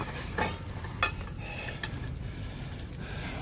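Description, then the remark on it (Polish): A few clattering knocks of pots being set down on a table, three distinct bumps spaced unevenly over a low background rumble, fairly quiet. “Postaw. No, garnki tutaj.”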